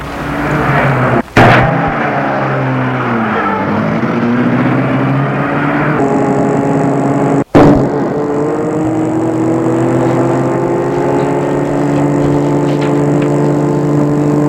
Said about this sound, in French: Et le chauffeur met la voiture en route.